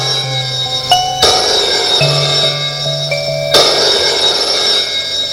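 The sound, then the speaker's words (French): A telephone in the Pope's office rings with a bright, metallic bell tone, two sharp bursts of ringing about two seconds apart over a steady, humming tonal backdrop, with no voices. “Demi-heure plus tard, le téléphone sonne au bureau du pape.”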